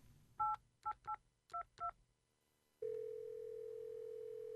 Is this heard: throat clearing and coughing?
no